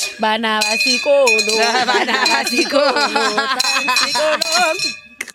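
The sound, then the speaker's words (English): A small bell is rung after winning the first game, repeatedly with bright, high, sustained tones that ring on and overlap, while voices talk and exclaim loudly over it throughout. “You want to ring the bell?”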